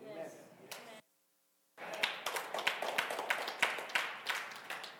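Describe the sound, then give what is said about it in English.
The audience of Ohana Church claps together, a dense crackle of many hands. A brief noisy stretch breaks off into a short silence, then steady, loud applause with sharp overlapping claps runs to the end. “But as you clap, be open-hearted to be disciplined.”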